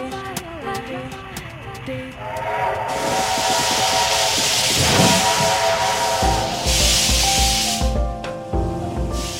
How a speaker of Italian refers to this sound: Questo suono è il nostro famoso treno a vapore.